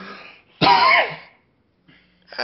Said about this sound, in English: Excuse me. Cough there.